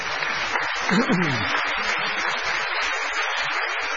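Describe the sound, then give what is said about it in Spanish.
A small studio group on a show claps steadily for about four seconds to welcome a guest, a dense, even patter of hands at moderate loudness, with a brief rising-and-falling vocal whoop early on. “Y aplaudimos.”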